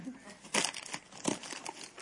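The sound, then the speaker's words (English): Crisp crinkling of pretty wrapping paper being handled and pulled open on a gift in an Amazon box, with two louder rustling bursts amid continuous papery crackle. “It's got the pretty wrapping paper and everything. It's in an Amazon box, but because I found the Amazon box.”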